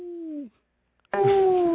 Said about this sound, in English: Damn dog. Who the fucking dog is on the show now?